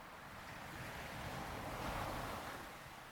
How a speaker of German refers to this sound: Du hörst die Wellenbewegung des Meeres und genießt es, nichts zu tun zu haben an diesem angenehm warmen Sommertag.